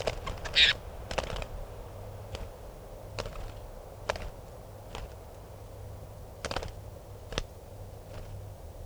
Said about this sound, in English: Recording a wild bird here.